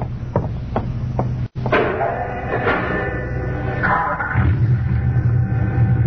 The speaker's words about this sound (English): You start the mechanism to open the garage door, then jump on the truck.